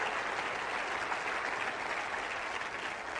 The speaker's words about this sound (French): Est-ce qu'on peut applaudir le Dieu qui étend nos limites? Allez, applaudissez la grâce de Dieu, le rêve de Dieu.